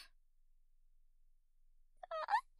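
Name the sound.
burp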